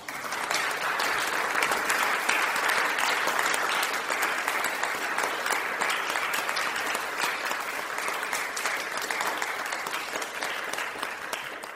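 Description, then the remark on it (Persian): Sustained standing applause from a large audience honoring a woman doctor after her farewell speech, a dense steady patter of many hands clapping at an even volume for about twelve seconds, with no voices standing out. “همه به احترام خانم دکتر ایستادند و او را تشویق کردند.”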